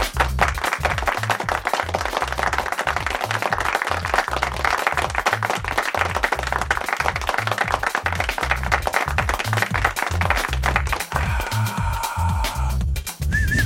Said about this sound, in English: Oh wow, there you go. Yeah, applause. Wow, the unexpected. Yeah. Cue applause.